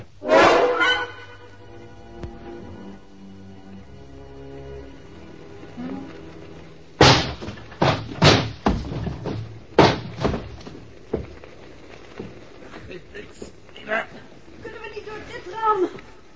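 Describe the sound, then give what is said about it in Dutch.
Someone forces a stuck, locked door, making a run of loud, heavy thumps and rattles, several bangs in quick succession, with strained voices and movement around them. “We moeten die deur open krijgen.”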